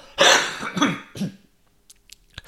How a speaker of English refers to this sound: Great, isn't it? You stop smoking for 9 months and you get all this coughing. I cough less when I smoked, quite frankly.